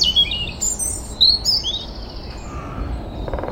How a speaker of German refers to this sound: Hier oben zwitschert ein Rotkehlchen. Also das Rotkehlchen hat zum Teil ganz hohe Töne drin.